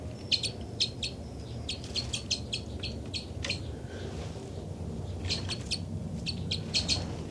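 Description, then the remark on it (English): Loud, rapid calls of bird number 274 flying across, in repeated bursts of sharp, high chirps and chitters, with a brief pause midway before the calling resumes over a steady low background rumble. “274 loud there.”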